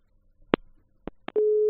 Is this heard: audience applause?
no